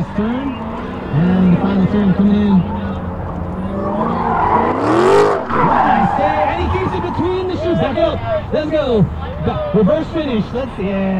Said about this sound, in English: Yesterday, I watched several sports cars hit the track. A Mazda Miata, a yellow Corvette, and this black Dodge Challenger